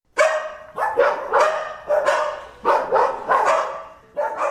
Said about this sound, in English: Their barks are just so generic. They sound like every other damn dog on the block.